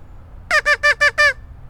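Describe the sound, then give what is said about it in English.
Five quick, nasal quacks from a duck call are sounded at ducks diving for food in a pond. The quacks are evenly spaced in a fast rhythm, each loud and reedy with buzzy overtones, sounding alone over a faint low rumble. “Okay, I'm gonna give them the duck call.”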